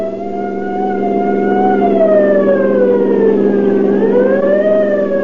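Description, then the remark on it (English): A siren wails steadily through a driving rainstorm as a deputy sheriff's car speeds through the gathering night, its pitch sliding slowly down and back up, loud over a constant low rumbling background, with no voices. “The scream of a siren knifed through the din of a driving rainstorm as Deputy Sheriff Douglas Webb and Grover Mull sped through the gathering night.”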